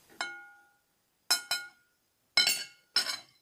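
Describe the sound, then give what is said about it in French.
Five sharp taps on a bowl, each ringing briefly with a bright, glassy tone: one alone, a quick pair, a pause, then another pair. Clear, with silence between strikes. “Des coups sur un bol.”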